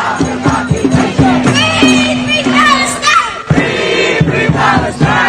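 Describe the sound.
A crowd of young students chants 'Free, free Palestine' slogans in solidarity with Palestinians, in loud, rhythmic call-and-response, one voice leading and many voices answering in short repeated bursts of shouting.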